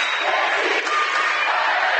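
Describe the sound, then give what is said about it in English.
The Jackson Center cheering section at a volleyball game roars steadily, a loud, dense wash of crowd noise that holds without a break for the full two seconds, with no single voice standing out. “You hear the Jackson Center cheering section behind us.”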